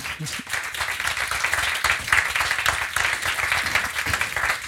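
A live audience at Exporttag 2024 in the Wirtschaftskammer Österreich claps steadily on request, a dense rattling wash of many hands that holds at an even loudness throughout, with a few faint voices mixed in under the applause.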